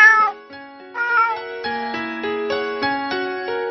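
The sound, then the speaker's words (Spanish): A cat meows twice in quick succession, clear, its voice rising and falling; steady plucked musical notes then continue in an even rhythm. No one speaks. “El gato llegó y dijo: uy, qué casita más bonita, con su puerta redondita.”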